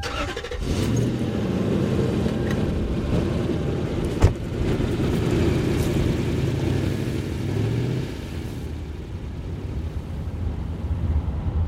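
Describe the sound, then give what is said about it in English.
A car engine hums steadily as the vehicle drives along the road on a short drive back to Chicago, a low continuous rumble with tire noise, briefly punctuated by a sharp click or thump partway through. “We get in the car and start the short drive back to Chicago.”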